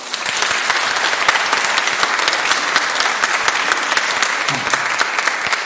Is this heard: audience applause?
yes